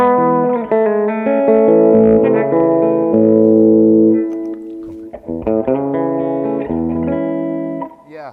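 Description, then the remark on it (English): An electric guitar plays sustained chords and melodic lines through a Chase Bliss preamp pedal used as a boost/EQ, the tone slightly louder and brighter with a little more top end and a light crunchy overdrive, ringing steadily for about eight seconds with no voices. “It's basically just a little bit louder. And a tiny bit of crunch.”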